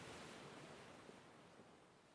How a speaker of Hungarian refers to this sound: Hallod a hullámok egyenletes, megnyugtató ritmusát.